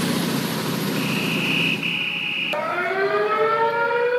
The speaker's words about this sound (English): There's your sirens. Yeah, that's not authorities. No, no, that's Antifa and other thugs.